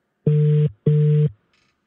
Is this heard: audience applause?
no